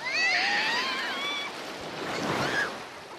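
Steady surf washing onto a white-sand beach on Ship Island under blue sea and splendid weather, a continuous broad hiss that swells again near the end, with thin high-pitched calls over the waves early on.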